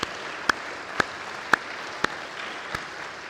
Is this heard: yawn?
no